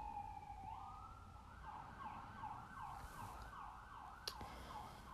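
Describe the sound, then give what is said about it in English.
An emergency siren wails outside as an emergency vehicle passes, its tone rising and then cycling in quick, repeated sweeps over a low traffic rumble. No one speaks. “I hope those sirens are gonna go help somebody.”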